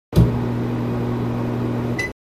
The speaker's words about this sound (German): Mikrowelle.